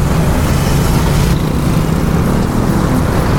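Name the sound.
motorcycles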